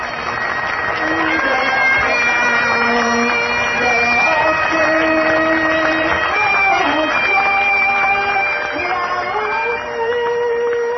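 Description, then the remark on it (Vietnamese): Scottish bagpipes play a steady, reedy melody over a sustained drone, mixed with continuous applause from a devout Scottish audience that stays loud and even for the whole stretch, at a lecture by Supreme Master Ching Hai in Edinburgh, Scotland, on 5 June 1999. “Kính thưa quý khán giả, vừa rồi là những tràng pháo tay của những trái tim mộ đạo Tô Cách Lan, cùng với âm điệu tuyệt mỹ của một nhạc cụ truyền thống, niềm tự hào của xứ sở này, đó là âm điệu của kèn túi Tô Cách Lan, một khí cụ âm nhạc có âm tần cao”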